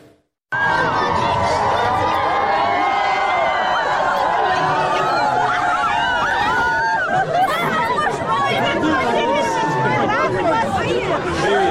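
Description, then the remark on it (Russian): A large outdoor crowd in the city of Derbent, filmed in official footage as Vladimir Putin walks into it, fills the air with dense, continuous babble of many voices, shouts and cheers rising over one another at a steady, loud level after a brief silent start. “вдруг рванул в город Дербент и совершенно неожиданно пошел там в большую, вполне себе микробную толпу.”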